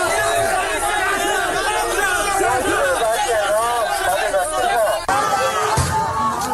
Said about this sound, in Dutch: Want honderden medewerkers raakten slaags met de beveiligers. Blijkt uit opnames die volgens Bloomberg op Chinese social media zijn gezet en dan horen we dit.